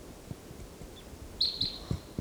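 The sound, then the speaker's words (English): A wild bird calls loudly with a short burst of sharp, high chirps, two quick notes close together, heard over quiet outdoor background with a few low thumps. “That's 384 calling loudly and back.”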